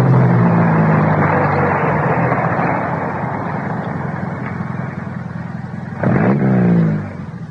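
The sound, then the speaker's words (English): A car engine runs loud and steady, its low hum slowly easing, then swells in a brief surge near the end before cutting down as the car stops. No voices. “Hey, stop the car.”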